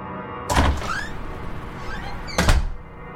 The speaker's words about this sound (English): He burst through the back door.